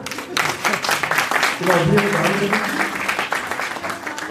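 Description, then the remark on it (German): A crowd claps steadily for several seconds, applauding quiz participants for two correct answers, a dense crackle of many hands, with a voice briefly speaking or calling out over the applause partway through. “Ein Applaus für alle.”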